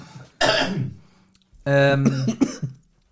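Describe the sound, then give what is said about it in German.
A sharp, noisy cough caused by chocolate irritating the throat bursts out, followed after a short pause by a voiced, harmonic throat-clearing rasp with a few choppy catches, fairly loud, with no talking. “Siehst du? Von Schokolade muss man husten.”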